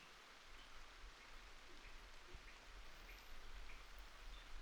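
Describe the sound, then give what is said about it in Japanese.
Water drips from a leaking roof on a rainy day, scattered soft plinks forming a melody-like pattern over a steady hiss of rain. The patter is quiet and continuous, with no voices. “雨漏りの音につい聞き惚れちゃいました。”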